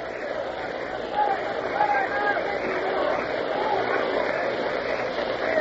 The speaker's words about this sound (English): Here's the pitch. Ball three. Inside. The crowd said, oh, a couple of O's. Three and two. You may hear them O-ing.